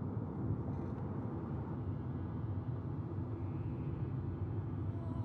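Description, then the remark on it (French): Steady low engine rumble from inside a moving car, a continuous droning hum with road noise that holds evenly throughout, moderately loud, with no voices. “Nous sommes en voiture, ma mère et moi.”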